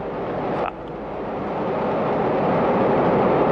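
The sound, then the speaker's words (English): The engines of a Soyuz TMA-16M rocket launching to the International Space Station in 2015 ignite into a broad, rumbling roar that swells steadily louder, with a brief sharp crackle near the start, and no voices over the rising noise. “The engines igniting.”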